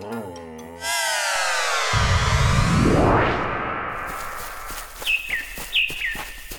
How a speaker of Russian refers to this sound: Как тут хорошо! Солнышко так ласково светит, птички поют. Воздух какой! Ох, красота! Да, мне тоже очень нравится бывать летом в лесу.